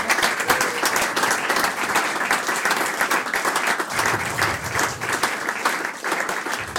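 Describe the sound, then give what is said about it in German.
Steady audience applause at a live jazz concert, for the team recording the show, fills the whole stretch, many hands clapping at once in a dense, continuous patter that stays fairly loud and even without letting up. “Applaus bitte an das ganze Team.”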